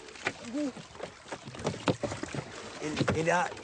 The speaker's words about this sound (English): He jumps up, wobbling, and swings his arms for balance as the boat rocks unsteadily.